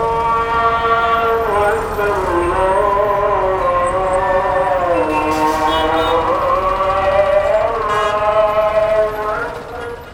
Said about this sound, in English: We get out of his truck and walk down a bustling sidewalk till we stand across from the historic Al-Husseini Mosque. The midday call to prayer echoes across the city.